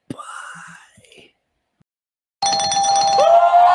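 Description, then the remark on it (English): After a brief rising tone and a pause, a loud, steady electronic beeping tone starts up from a truck backing up, and holds strongly to the end. “The truck's backing up because they're hearing us.”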